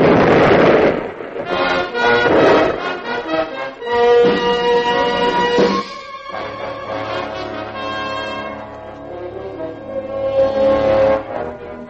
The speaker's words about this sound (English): What is that? Unless I am mistaken, senorita, it is a ship's cannon.